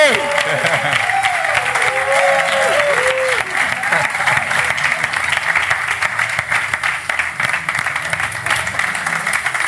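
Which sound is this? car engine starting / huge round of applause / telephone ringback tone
huge round of applause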